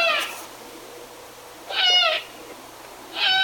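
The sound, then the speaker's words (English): Three loud, raspy, high-pitched begging calls from a young great horned owl, each lasting about half a second and spaced over a second apart, with no voices. “Yeah, that's some of the incessant begging of a great horned owl.”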